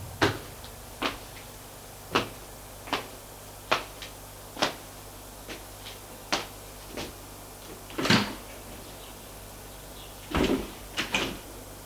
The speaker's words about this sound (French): Puis, il va prendre l'ascenseur.